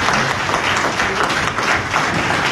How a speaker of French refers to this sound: Et tout le monde se lève là. Tout le monde se lève pour applaudir Benny Elon.